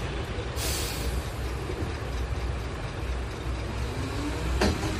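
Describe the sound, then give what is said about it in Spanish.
A heavy garbage truck rumbles steadily during a reinforced rubbish collection in A Coruña, Spain, as workers remove bags, cardboard and food strewn in the streets, with a sharp hiss of air early on and a brief metallic clank near the end, no voices. “El de los camiones de la basura.”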